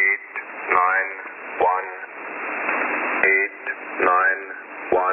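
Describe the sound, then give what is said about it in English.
A shortwave numbers station broadcast: a tinny, narrow-band voice calls out numbers in short bursts over a steady bed of radio hiss and static, heard through a receiver. “Number stations have been around since the First World War.”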